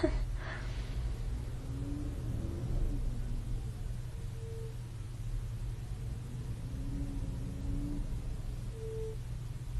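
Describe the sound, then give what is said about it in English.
A garbage truck rumbles outside, its heavy engine a steady low drone throughout, muffled, with faint higher mechanical whines rising and fading over the hum. “There's the garbage truck.”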